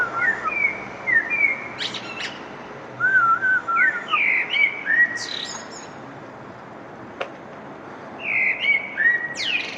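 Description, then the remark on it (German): Birds chirp and whistle in repeated bright, rising phrases over a steady outdoor background hiss, several calls overlapping, with one sharp click partway through; recorded on a balcony. “Ein Vogelgezwitscher, das ist ja schon Biolärm, wie wir Golfer sagen, wenn wir unseren Golfschwung machen und die Vögel in den Bäumen zwitschern oder irgendwelche anderen Viecher.”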